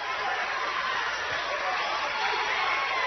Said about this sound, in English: As the green and gold faithful on the far side, give a big round of applause with that transition basketball play there.